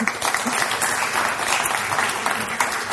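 An audience claps steadily, a dense wash of many hands with crisp bright pattering that stays fairly loud and even throughout, with no voices over it.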